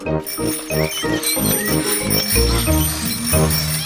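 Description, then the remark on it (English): Several bicycle bells ring at once, a loud, busy clamour of overlapping metallic dings and trills that carries on steadily throughout, with a rhythmic thumping underneath and no one speaking. “Who's got the loudest bell?”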